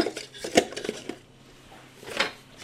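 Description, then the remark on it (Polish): Washed yogurt cups are stacked one inside another, with jars and bottles set side by side, clinking: a quick cluster of bright knocks and rattles, a lull, then one more clatter. No one speaks. “Kubeczek w kubeczek, słoiczek koło słoiczka, buteleczka koło buteleczki.”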